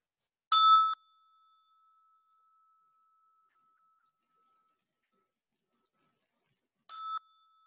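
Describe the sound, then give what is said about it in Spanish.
A bell is struck twice, several seconds apart. Each clear ring hangs in a long, fading hum amid quiet, with no talking. “En unos momentos voy a tocar la campana 3 veces.”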